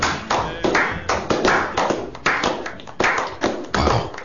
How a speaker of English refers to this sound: Would you please show your appreciation in the form of applause for Bill Quevlin?